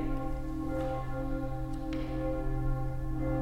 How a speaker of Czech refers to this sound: Ich denke nicht, aber ich höre große Kirchen. Nemyslím, ale slyším velký kostelní zvon.